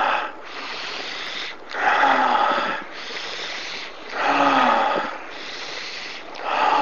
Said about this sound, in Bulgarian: Вдишване през носа, издишване през устата.